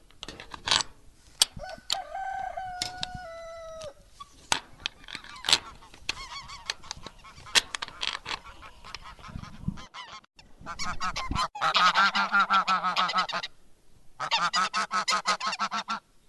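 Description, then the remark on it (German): Geese honk repeatedly in loud, harsh bursts on a farm at animal feeding time, with a long raucous stretch of overlapping calls near the end amid farmyard clatter and scuffling. “Jetzt habt ihr gerade Gänse gehört.”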